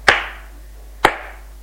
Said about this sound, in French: Il la rattrape. Juste où elle va ouvrir la porte, il la gifle.